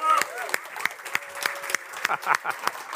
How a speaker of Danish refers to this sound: Lad os lige give en hånd til Aarhus. Sådan.